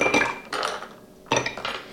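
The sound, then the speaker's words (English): Ice cubes clatter into a cocktail mixing glass in two quick bursts while a drink is being made, a bright rattling clink followed by a short pause and a second tumble of cubes, with no talking. “And I'm going to add some ice to my mixing glass.”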